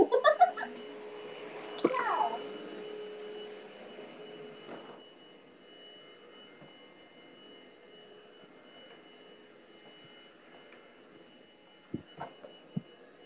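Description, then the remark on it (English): A muffled vacuum cleaner drones steadily throughout, a low, even hum with a faint whine on top, briefly broken by a few short sounds near the start and some soft thumps toward the end. “The vacuum is too loud for them.”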